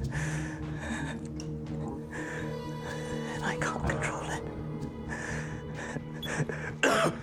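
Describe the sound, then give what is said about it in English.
A man coughs and clears his throat in several rough, breathy bursts, fairly loud, over a steady low droning musical background, in a scene from the TV series Heroes where he is speaking into a tape machine. “As he coughs, he leans over and discovers that thick, clear goo is seeping from his palms and sticking to the table.”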